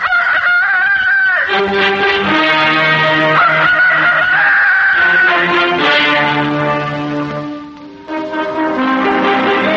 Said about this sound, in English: Cockerel, rooster, chanticleer, morning's minstrel, fighter of darkness. I saw his wattle shaking like a flag, his tail feathers like an army with banners.